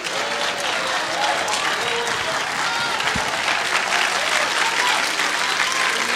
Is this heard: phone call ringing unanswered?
no